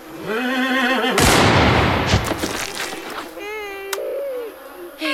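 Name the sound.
horse neighing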